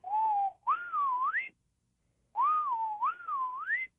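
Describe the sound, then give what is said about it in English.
A person whistles an imitation of a Swainson's thrush song: two clear, rising, warbling phrases spiralling upward, separated by a short pause, fairly loud with no talking. “Tell us the name of the bird again that sings like Swainson's thrush.”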